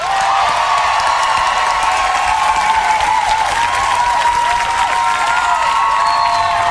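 Steady, loud applause from a crowd fills the whole stretch, dense clapping with a few cheers and whoops rising over it, holding at an even level throughout.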